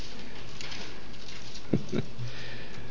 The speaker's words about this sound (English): Genesis 15. So we're going to hear some pages turning out there.